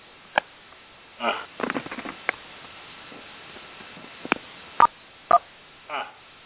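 A couple of short, distinct telephone keypad beeps sound near the end, spaced about half a second apart, amid scattered breathy clicks and rustles on a thin, phone-quality line.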